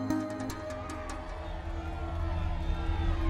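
A large crowd cheers and roars in a steady, dense wall of voices as the executioner holds up the severed head of Marie Antoinette, with a few sharp shouts near the start and the noise swelling slightly toward the end.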